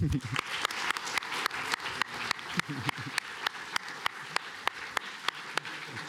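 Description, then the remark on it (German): An audience applauds a group who came up to the front to present their project, a dense wash of hand claps punctuated by sharp, evenly spaced louder claps throughout, while faint voices murmur underneath. “Vielen Dank, dass ihr nach vorne gekommen seid und ihr kriegt auf jeden Fall noch, bleibt kurz hocken, einen Applaus”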